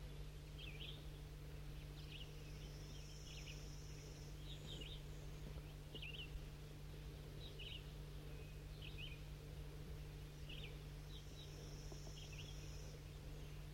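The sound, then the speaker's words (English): Crossbill calls ring out as short, sharp chip notes in loose clusters from a crossbill sitting in the top of an oak tree, over a steady low hum, with no talking. “I'm on my way down with these four newly caught birds, and I hear a crossbill sitting in the top of this oak tree.”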